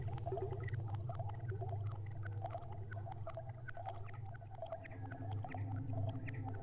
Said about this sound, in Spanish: El burbujeo del agua.